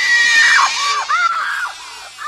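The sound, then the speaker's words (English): A woman in a movie scene screams loudly and shrilly, her voice wavering in pitch through a couple of sustained, piercing wails that fill the whole moment without a break. “Kate Capshaw's character just never stops screaming”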